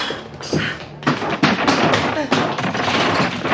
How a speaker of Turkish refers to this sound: İşte kapıyı kırdık Mita.